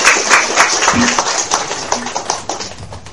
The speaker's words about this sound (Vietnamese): Và xin toàn thể đạo tràng chúng ta cho một tràng pháo tay thật nồng nhiệt và xin thỉnh Đại Đức giảng sư Nam Mô A Di Đà Phật.